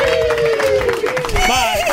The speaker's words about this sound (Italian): Vai col nitrito, un saluto al cavallo. Vai, Taormina Champagne, vai.